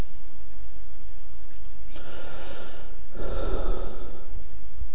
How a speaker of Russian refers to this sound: Дышу, дышу, я дышу, я жив.